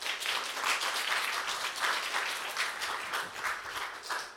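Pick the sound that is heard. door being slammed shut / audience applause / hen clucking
audience applause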